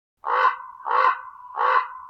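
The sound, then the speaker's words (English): A raven calls three times in steady succession, each hoarse, croaking note loud, with a faint rasp linking the calls and no other sounds around it. “Commonly heard are the crow and the raven.”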